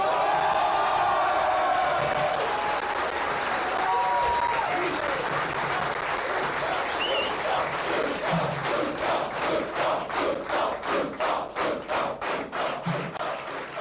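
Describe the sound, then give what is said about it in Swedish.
A crowd at an Alternativ för Sverige political rally applauds and cheers after the announcement that the party will stand in the Swedish parliamentary election, with scattered whoops and shouts over dense clapping that turns into a steady, rhythmic unison clap toward the end. “Han är tafatt, men publiken är ju jättetafatt också. De vet ju inte hur man jublar. De låter det som en skock får.”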